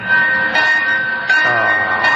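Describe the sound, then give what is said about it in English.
A loud, shrill train whistle blows continuously as someone in the engine keeps pulling it, its steady high tone swelling in fresh bursts every second or so as it is pulled again. No one speaks. “Oh, stop pulling the whistle.”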